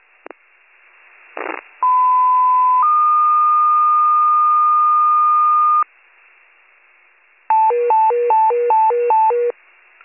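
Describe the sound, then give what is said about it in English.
Warren County fire dispatch rescue retone with general tones over a radio channel for a brush fire at Chambers Street and Heckman Street: after two short clicks, a steady tone shifts up to a second long held pitch, then a rapid warbling series alternating between two pitches. “Rescue retone with general tones, Chambers and Heckman, in front of 4 Heckman, brush fire, being 9 for rescue, general tones, Chambers Street and Heckman Street in front of 4 Heckman, rare brush fire, 1805.”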